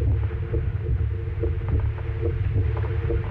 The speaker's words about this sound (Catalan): Aquesta és la primera falca de ràdio feta amb batecs reals de persones que han superat una malaltia cardiovascular.